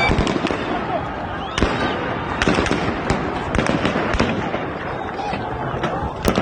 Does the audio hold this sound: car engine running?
no